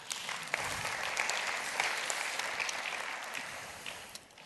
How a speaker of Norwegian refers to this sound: Ja, men så gi Anka en klapp.